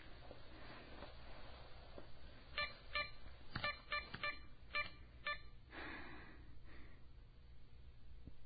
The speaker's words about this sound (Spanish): O mejor, voy a llamar a mi papá al móvil.